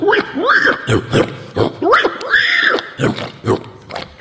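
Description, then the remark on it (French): A person imitates a pig or wild boar with a run of throaty grunts and squealing snorts in uneven bursts, fairly loud, with no other talking. “Si on fait le sanglier ou le cochon, ça va donner des...”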